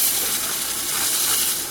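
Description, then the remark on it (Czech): A steady, harsh grinding as a metal spinning form is ground smooth, a continuous bright hiss that holds even and loud for the whole stretch, with no talking. “Brousíme,”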